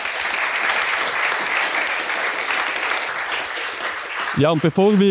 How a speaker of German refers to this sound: Ich schlage vor, wir machen einen großen Applaus für meine Gäste